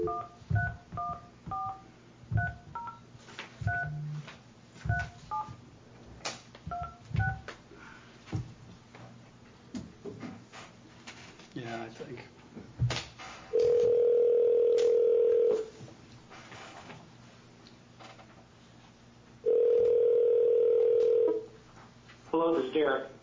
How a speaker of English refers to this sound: Actually, on this email, there's a cell phone number, so I'm going to call it.